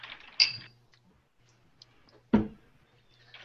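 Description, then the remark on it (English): A bottle cap twists with a brief plasticky click and scrape as someone tries to open a bottle that is already open, followed after a pause by a single dull knock, over a faint steady hum with no talking. “I just tried opening the bottle I already had open.”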